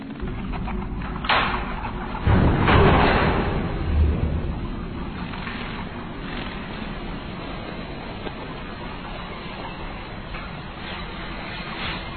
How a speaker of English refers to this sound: What is that? I don't know. Sounds like wings.